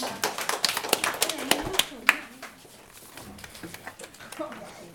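A burst of applause welcoming four participants before a football quiz: many hands clapping in a dense, irregular patter that is loudest at first, then thins into scattered, quieter claps toward the end.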